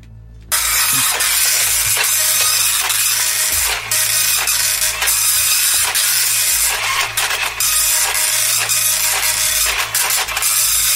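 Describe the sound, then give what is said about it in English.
A printer grinds steadily through a page, a continuous mechanical whir with low motor hum and repeated clicks and clunks of the paper feed, starting abruptly and running without a break. “Quite a slow printer, Ed, I'm sorry. Apologies again, it's very slow.”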